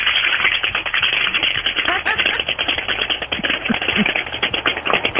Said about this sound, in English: stop typing when you're on the air. I'm a very busy man. There's limited time in my day to get stuff done. But I'm going to say again, there are quiet keyboards.